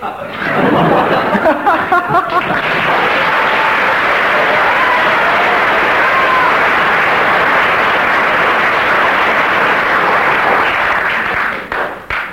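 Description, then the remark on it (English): A studio audience applauds steadily for about twelve seconds, a dense wash of clapping mixed with some laughter early on, staying loud and even before tapering off at the end. “Well, we have an aggregate there of 18 to Graham and Joe. That's one mark per second of applause.”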